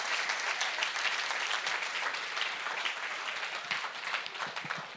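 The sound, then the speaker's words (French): An evening church audience applauds the Lord steadily, a dense crackle of many hands clapping at an even, sustained loudness for the whole stretch, with no voices standing out. “Est-ce qu'on peut donner une main d'applaudissement au Seigneur pour ce qu'il va faire à l'avance ce soir?”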